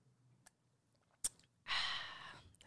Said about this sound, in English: ASMR sippy vibes for whoever likes that. That's for y'all.